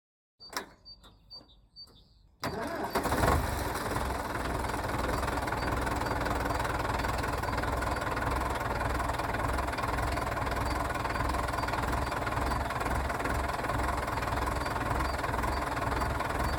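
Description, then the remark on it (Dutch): An old tractor engine, once driven from Terschelling to the Cape of Good Hope, cranks with a few clicks, then starts at about two seconds and settles into a loud, steady, knocking rumble that runs without letting up. “En ja, de oude trekker waarmee ze de reis van Terschelling naar Kaap de Goede Hoop maakte, doet het nog steeds en staat in haar voedselrijke tuin.”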